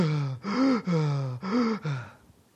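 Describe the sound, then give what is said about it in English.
A voice imitates the labored, rasping breathing of a dying person on a deathbed with oxygen tanks and tubes: four drawn-out, groaning gasps in a steady heaving rhythm, fairly loud, fading off at the end. “But when they were on their deathbed, you know, with oxygen tanks and tubes coming everywhere, and they're breathing.”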